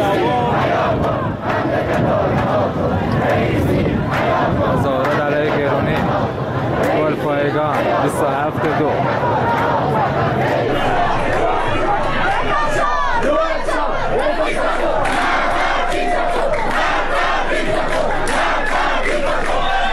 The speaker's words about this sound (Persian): ویدیوهای دریافتی از اعتراضات سه‌شنبه شب در گلپایگان حاکی از حضور گسترده مردم و شعارهای آنها علیه مقامهای جمهوری اسلامی بود.